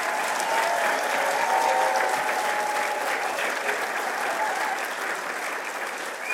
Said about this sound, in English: Again, a huge round of applause.